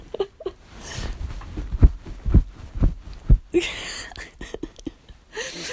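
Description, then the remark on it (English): Bed sheets rustle and swish in soft bursts as someone bounces around on a new bed, mixed with a few dull, muffled thumps from the mattress, with no creaking or squeaking at all. “So there's some bed noises, but it's not creaking and squeaking.”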